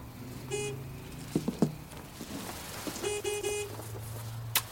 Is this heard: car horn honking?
yes